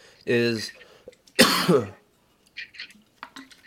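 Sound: coughing and throat clearing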